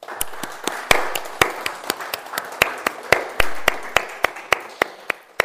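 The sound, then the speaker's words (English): A room full of people applauding children and young people, with sharp individual claps standing out above a dense, steady wash of clapping that carries on for several seconds with no talking. “And let's give all of our children and young people a big round of applause.”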